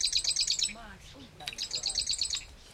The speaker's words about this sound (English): It's a small bird, only about the size of a chickadee. Oh, hear that bird. I've never seen a marsh wren, but I can hear it. Chip, chip, chip, chip, chip, chip. Chip, chip, chip, chip, chip.